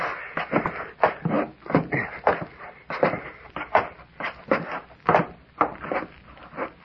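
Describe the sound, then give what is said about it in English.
A wooden trap door is opened, followed by a busy series of irregular thumps and scuffs as people clamber up, creaking boards and shuffling steps filling the moment without any talking. “Hey, the trap door's unfastened.”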